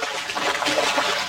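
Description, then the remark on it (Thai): A fish caught in a net thrashing and splashing in water, struggling for its life, a steady churning slosh with bursts of brighter splashes, moderately loud and continuous for just over a second, with no voices. “เสียงปลาตะกิดตะกายร้องขอชีวิตตอนติดแห”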